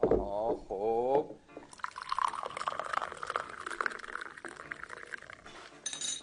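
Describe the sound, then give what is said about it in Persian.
A voice says a short word, then a steady stream of tea pours into a small tea glass for several seconds, a bubbling trickle whose pitch climbs slightly as the glass fills, on a cold, rainy winter night. “اجازه بدید من چای بریزم.”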